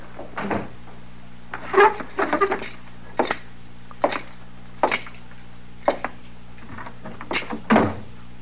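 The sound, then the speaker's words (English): A door into the back room being shut, heard as a string of wooden knocks, clunks and thumps spaced irregularly over several seconds, with no one speaking. “Oh, say, you want me to close the door into the back?”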